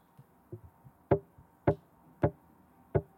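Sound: tugging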